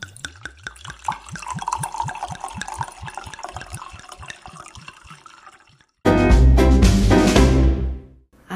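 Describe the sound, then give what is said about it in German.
Wine glugs out of a bottle in a quick, steady rhythm, then a louder, rushing pour fills a glass before stopping abruptly. No one speaks. “Ja, aber jetzt wollen wir erstmal einschenken.”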